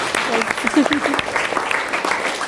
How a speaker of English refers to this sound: Let's have a big round of applause for them. Thank you.